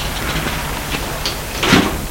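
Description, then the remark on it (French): A car trunk is handled as belongings are taken out of it, ending in one solid clunk of the lid or latch, with fainter scuffs and rattles before it against a quiet background. No one speaks. “Ils sortent du coffre les affaires.”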